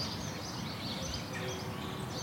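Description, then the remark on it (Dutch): Soft, overlapping bird chirps and twitters drift through a steady outdoor hush in a wooded villa village, Aardenhout, with several birds calling continuously as the sound of cars fades away. No one speaks. “Als het geluid van de auto's wegsterft, dan hoor je de vogels kwetteren.”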